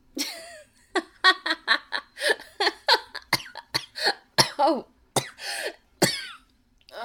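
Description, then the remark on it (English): A prolonged fit of harsh coughing, with a rapid string of hacking bursts separated by brief pauses and some raspy, throat-clearing edges, with no talking. “Yeah, it's just a cough.”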